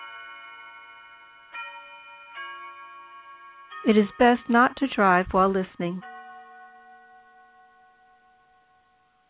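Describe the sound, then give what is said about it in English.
Wind chimes blown by the wind strike a few scattered times, their clear metallic tones ringing and slowly fading. A man speaks briefly in the middle while the chimes keep sounding softly. “As we just heard, chimes that are blown in the wind.”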